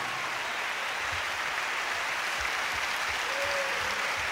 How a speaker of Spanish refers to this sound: El aplauso para mis compañeros músicos y cantantes de Puerto Rico.